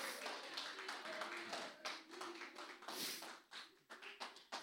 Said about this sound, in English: Give yourself a big round of applause this morning.